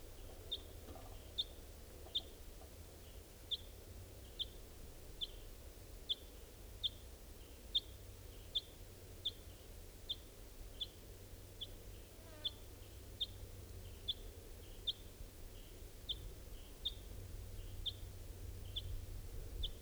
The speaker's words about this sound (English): I'm not even sure if this is a crossbill.